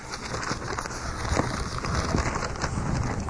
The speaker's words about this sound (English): I'm sorry, my page, trying to unstick my pages here a minute.